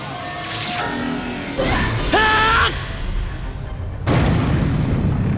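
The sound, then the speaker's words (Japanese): A wall is broken open: a crashing, booming burst with rushing whooshes and a ringing, warbling sci-fi tone, then a second heavy rumbling blast that hangs on loud to the end. “壁が割れた。”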